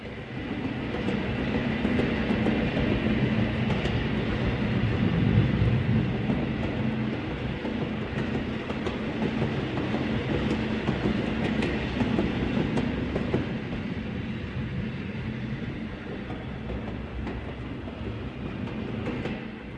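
A train rumbles steadily along the rails, a continuous low roar with faint rhythmic clatter, fairly loud throughout with no voices.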